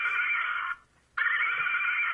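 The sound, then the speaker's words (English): A loud horse whinny in two sustained, high-pitched bursts split by a brief pause, with no talking over it. “I play the horses. Wait a minute. Right about now, they're calling me.”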